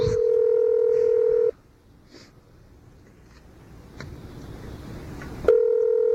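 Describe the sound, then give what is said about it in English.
Touch-tone telephone dialing: a loud, steady electronic tone sounds, breaks off into a quiet stretch with a few faint blips and low rustling, then the tone abruptly returns. “Can't you dial any better?”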